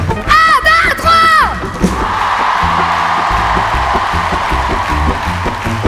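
A large crowd at the Festival de La Rochelle yells and cheers loudly for the festival organisers and staff, with high, rising whoops in the first second and a half, then a sustained roar of many voices and steady clapping that stays dense throughout.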